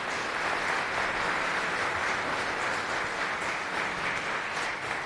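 An audience applauds steadily, a dense, even wash of many hands clapping at once that holds a constant loudness for several seconds, with no voices heard over it.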